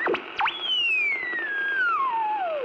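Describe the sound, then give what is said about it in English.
A thin, wavering whistle from radio circuits feeding back into heterodyning interference swoops sharply a couple of times, then glides slowly downward in pitch over a couple of seconds, steady and fairly loud over a faint hiss, with no voices. “radio circuits, when they used to feed back and go into heterodyning and all this sort of weird interference sounds, were actually making something which was, in its own way, bewitching.”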